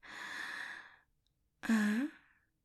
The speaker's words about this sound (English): Oh, and the way you're breathing. It's turning me on.